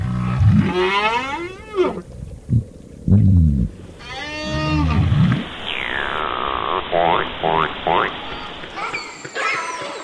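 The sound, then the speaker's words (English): A series of underwater whale and fish calls in the ocean, with drawn-out harmonic moans that rise and fall, short grunting pulses, and a long descending whistle, against a steady watery hiss. “Day and night, whales, fish, and other species are singing, using their sounds, grunts, whistles, drumming, echolocation to forage, to find mates, to avoid predators.”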